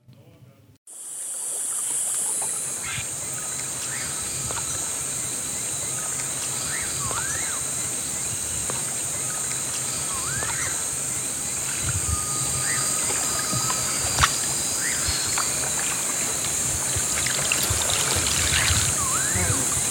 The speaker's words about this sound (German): Ein älterer Mann treibt in seinem Kahn flussabwärts. Ab und an durchbricht sein Paddel die Wasseroberfläche und lässt das Spiegelbild für einen Augenblick verschwimmen.